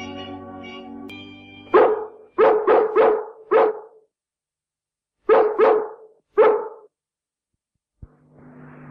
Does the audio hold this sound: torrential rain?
no